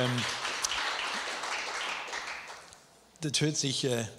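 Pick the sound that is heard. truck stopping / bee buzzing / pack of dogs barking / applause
applause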